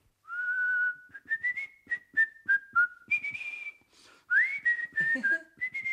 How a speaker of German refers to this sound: Und da hat er nach Feierabend vor sich hingepfiffen.